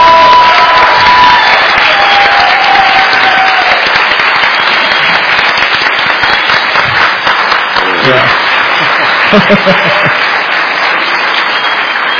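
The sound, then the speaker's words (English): Sustained audience applause, a dense, steady crackle of many hands clapping that fills the whole stretch at full loudness, with a few cheers and whoops rising briefly through it. “So I want to give her another round of applause.”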